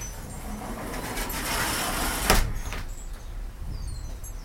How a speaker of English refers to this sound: Now I'm going to come over here and I'm going to unlock the patio door.